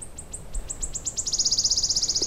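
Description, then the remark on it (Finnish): A wood warbler sings alone: high, thin notes that start spaced apart, quicken steadily, then run together into a shivering, metallic trill. It sounds clear. “Eihän tämä lintu mikään yhdyskuntapesiä ole, mutta lähellä toisiaan ne tykkäävät kuitenkin laulaa.”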